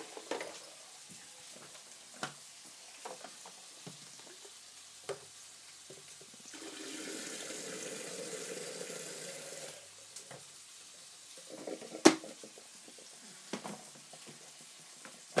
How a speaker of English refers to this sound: I suppose I've got to boil a kettle just in case I need to add some water.